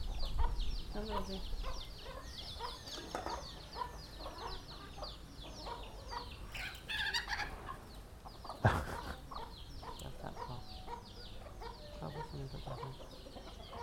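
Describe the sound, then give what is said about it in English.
A cockerel clucks repeatedly in short bursts, with other fowl chattering throughout and a single sharp knock partway through. “Cockerel.”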